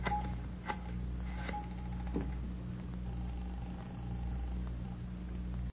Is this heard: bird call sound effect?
no